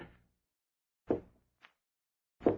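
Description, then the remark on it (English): Slow, heavy knocks on a door, three solid thumps spaced more than a second apart with a light tap between them, with no one speaking. “Someone's knocking.”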